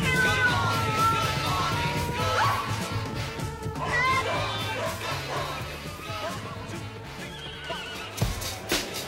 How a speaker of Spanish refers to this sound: crear un estridente despertador musical con la inclusión de una sección de metales y de sonidos de animales en la canción.